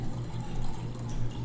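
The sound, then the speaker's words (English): Water pours steadily into a glass, a continuous gurgling trickle with a low resonant tone lasting a second and a half, no voices. “Ah, the sound of true refreshing water.”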